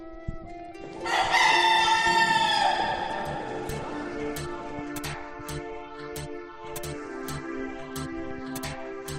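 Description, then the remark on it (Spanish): A rooster crows once, loud, at a cathedral in Spain, its drawn-out call lasting about two seconds, followed by a steady series of sharp, regular clicks against a low background hum. “Bueno, pues ya me he trasladado al otro lado de la catedral, desde la zona de los gallos”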